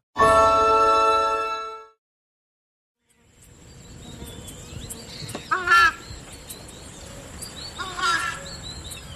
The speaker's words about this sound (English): What's the bird? It's the screamer. The screamer? The screamer, yeah. And it's a big bird the size of a turkey. And it's like the alarm of the Pantanal.